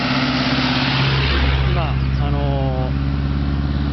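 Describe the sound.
A car drives past in the mountains of Thailand around 6 pm, its steady engine rumble and road noise filling the scene, with faint tonal music and a voice in the background.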